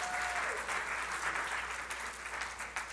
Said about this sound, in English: Like two Super Bowl champions in our church. Some churches don't have one. We got two. Y'all clapping, I ain't even said the brothers' names yet. Sherman Smith, Bernard Pollard, Super Bowl champions.